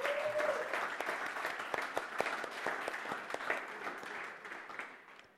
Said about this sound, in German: Gebt mal unserer Band einen herzlichen Dankeschön-Applaus.